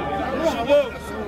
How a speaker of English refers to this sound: The crowd's pushed forward to try and see if they know the people or to see what the injuries are.